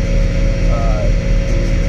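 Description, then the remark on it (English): A heavy tractor engine rumbles steadily and loudly, with a constant low drone and a faint whining tone on top. “Tractor dump sound hour.”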